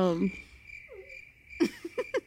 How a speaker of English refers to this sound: Insert cricket noises.